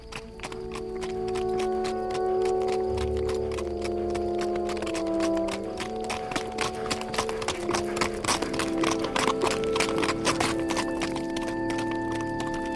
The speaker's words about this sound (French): Le trot du cheval faisait tourner très lentement de chaque côté de la route, comme les rayons rigides d'une roue, des rangées d'arbres raides